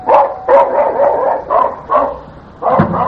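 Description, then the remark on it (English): A dog barks repeatedly in a lively, irregular series of loud yips and bow-wows, with brief pauses between bursts and no one talking. “And what a beautiful dog.”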